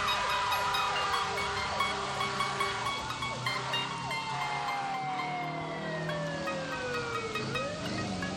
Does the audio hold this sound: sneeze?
no